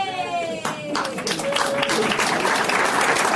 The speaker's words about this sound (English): Yay! Very tepid applause. People are not happy for you.